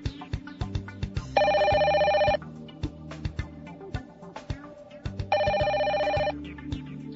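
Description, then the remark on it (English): A telephone rings twice, each ring a bright, buzzing electronic tone lasting about a second, separated by a few seconds, over a steady thumping rhythmic background. “The time was 7:40 a.m. I reached for the phone.”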